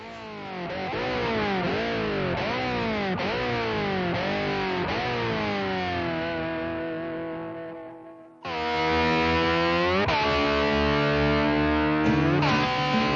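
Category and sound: vehicle, racing car engine revving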